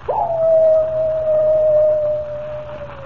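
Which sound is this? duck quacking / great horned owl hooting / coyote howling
coyote howling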